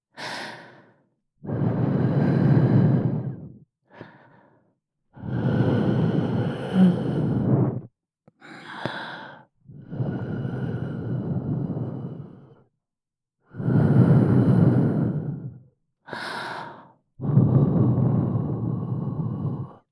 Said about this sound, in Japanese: 耳が寂しいでしょ？吐息をかけてあげます。